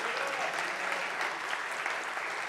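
An audience applauds the Lord steadily, a dense, even wash of many hands clapping at once with no break or rise, sustained for a few seconds.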